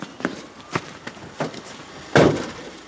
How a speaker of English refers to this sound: They sprint from inside the station to the fire truck, geared up and ready to depart.